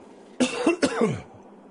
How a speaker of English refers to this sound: Pardon me, ladies and gentlemen. Those of you watching on the video feed, you can see that I'm coughing a little bit.